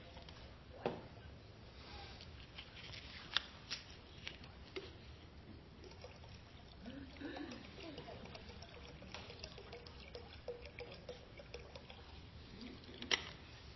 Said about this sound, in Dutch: Ik ga nu eventjes de schaal vullen met water.